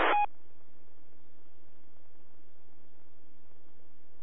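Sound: telephone number being dialed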